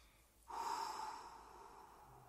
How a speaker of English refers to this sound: Do this with me now. Breathe out completely.